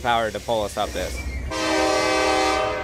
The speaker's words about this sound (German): Wir werden von einer SD-Mac-Lokomotive gezogen mit 4.300 PS. Und hinten schiebt eine zweite Lok mit 3.000 PS. Man braucht schon ein bisschen Kraft, um uns hier hochzubringen.